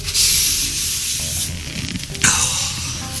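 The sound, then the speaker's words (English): Someone wipes up feces smeared down a crucifix with a paper towel: a steady, papery scrubbing rub with uneven strokes, swelling into one harder swipe toward the end. No one speaks. “All right, so he comes back downstairs with a paper towel, which just, you know, smears the shit around, and let's listen to him clean up the poop.”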